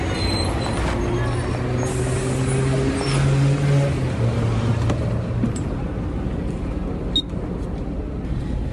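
A bus rumbles close by, its heavy engine droning and idling with a low throbbing tone, followed near the end by a short sharp hiss like an air brake releasing.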